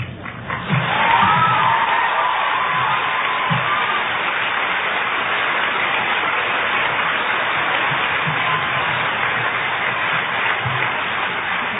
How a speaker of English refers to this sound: I'm not going to tell George you clap more for Ferris than you clap for George.